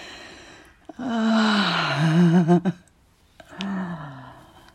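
A man breathes heavily and pants, with two long, breathy, voiced exhalations that rise and fall in pitch, separated by a short pause, with no speech.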